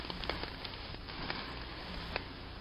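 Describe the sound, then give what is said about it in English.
A steady, soft hiss of wind driving sand, dotted with faint scattered ticks and grains pattering, continuous and fairly quiet throughout with no voices. “I'm just saying how the wind and sand sounded.”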